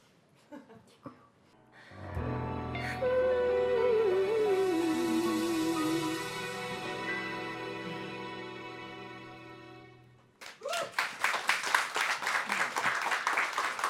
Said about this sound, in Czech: Živý potlesk se právě ozývá z Radio Café Vinohradská 12.